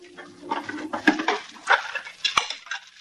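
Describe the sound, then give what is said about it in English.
Dishes clatter and clink as they are washed, a busy run of sharp knocks and rattles with a few louder bangs, like crockery being handled in a sink. “You needn't have washed the dishes.”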